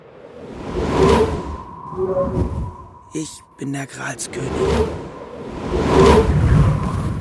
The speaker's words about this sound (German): Der Wind verwüstet den Tisch. Schon Weingläser kippen. Sie zerbrechen. Oh. Die servierten Hoi. Der Rosenkohl, die Erbsen in der Luft. Von den Tellern gejagt. Der Weih klatscht auf die Jacke. Der Wind zerrt am Kleid. Der Königin fliegt die Krone weg.